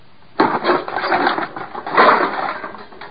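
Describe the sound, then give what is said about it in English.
A sudden loud crash of a hammer smashing a wooden birdhouse made of green lumber while a nail is pounded in, followed by about three seconds of splintering, rattling wood and clattering debris, with no voices. “you smashed the whole birdhouse.”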